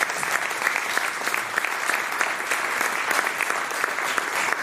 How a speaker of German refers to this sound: Von daher sage ich an dieser Stelle erst einmal ein riesen Dankeschön für Ihre Ausführungen, für Ihre offenen Worte auch. Und ich glaube erstmal einen riesen Applaus